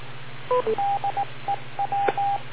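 A radio repeater sounds a quick run of electronic beep tones, a couple of two-note chirps then a string of short and longer steady mid-pitched beeps in an uneven rhythm, over a low hum and hiss.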